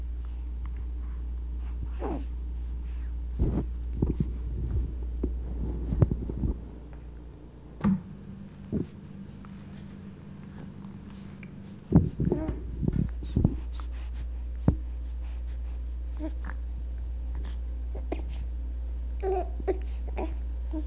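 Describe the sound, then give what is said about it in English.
A hungry baby boy's throaty grunts, whimpers and strained breathing come in short irregular bursts as he flails his arms, kicks his legs and struggles to get to the breast, unfed since 10 o'clock the night before, with quieter gaps and faint rustling between them. “Most of the sounds are in the back of the throat, and there's a lot of breathing being done.”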